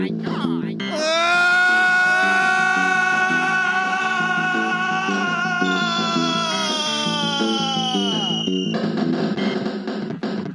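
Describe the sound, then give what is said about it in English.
People on the street scream as a man falls through a window to the ground: a long, shrill scream is held for several seconds before sliding down in pitch and breaking off, with a steady pulsing rhythm beneath it. “People on the street scream.”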